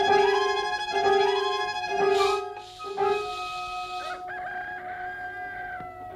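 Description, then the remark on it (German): Several chickens cluck in quick bursts while a rooster lets out a drawn-out crow, the harmonic calls layered, with a hissy burst midway; no one speaks. “Ich fürchte, sie sind krank. Bei den Hühnern fängt es an.”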